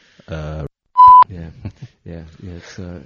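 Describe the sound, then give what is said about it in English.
A loud, steady censor beep lasting about a quarter second cuts sharply into a man's speech to bleep out a word that is not allowed, with talking continuing on both sides of it. “We're not allowed to use that word. Please cut that out later. Yeah. Thank you. I'll beep it.”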